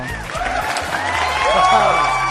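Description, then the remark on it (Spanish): Steady applause from a crowd, mixed with cheering and a few rising whoops, holding at a fairly loud level throughout the short stretch and swelling slightly toward the end. “Te estás pasando un poco, ¿no? Con el tema aplausos, mito viviente.”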